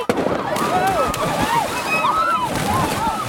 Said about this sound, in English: Suddenly, there came a sound of a splash, and then another, and then, in a matter of seconds, the dock cleared, and the waters of Mystery Bay were all abroil as screams of delight and agony filled the air.